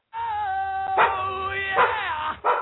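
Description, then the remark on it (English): A dog whines in a drawn-out, wavering tone, broken by three sharp barks at roughly even intervals. Fairly loud, with no one talking over it. “I'm gonna kick your dog, James.”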